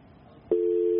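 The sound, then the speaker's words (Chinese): During a news broadcast, a guest's telephone line drops. After a moment of faint line hiss, a busy tone cuts in abruptly, a steady, fairly loud single pitch that holds to the end with no one speaking. “电话线路也断掉了，我们继续的尝试。”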